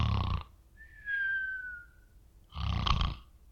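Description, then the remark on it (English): A voice imitates snoring: a loud, rough snore at the start, then a thin whistling exhale, followed by another loud snore, with no talking. “That's probably about like I snore.”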